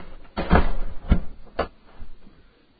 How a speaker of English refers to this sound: Close that door.